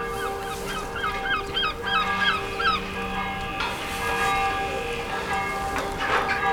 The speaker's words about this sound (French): D'une part, pour éviter l'ensablement et pour la réfection architecturale des remparts ainsi que de son église dont vous entendez la cloche sonner.